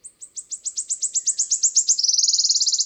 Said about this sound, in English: The wood warbler has its mouth open, calling out.